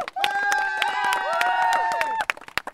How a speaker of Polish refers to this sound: A my się bardzo cieszymy tym, że mamy naszą drogówkę. Wielkie brawa dla drogówki.